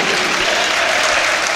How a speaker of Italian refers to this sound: Pubblico in piedi qui al Palamano ad applaudire a Givova.